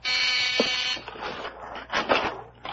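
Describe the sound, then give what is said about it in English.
A harsh electric doorbell buzzer at a house's front door drones in one steady, raspy burst lasting about a second, then cuts off, followed by scattered shuffling and clattering noises. “That's the front door.”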